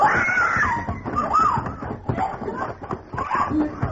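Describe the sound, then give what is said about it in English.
A woman screams in sustained, wavering cries that rise and fall for several seconds, fairly loud, with some rough background noise underneath. “Oh, sound like our lady scream, Mr.”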